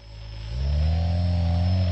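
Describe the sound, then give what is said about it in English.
The motors of a homemade drone in a workshop whir steadily, then their pitch rises and thickens into a louder, sustained mechanical hum with layered tonal harmonics as the drone is tilted. No one speaks. “So you see when I tilt it, you hear when I tilt it?”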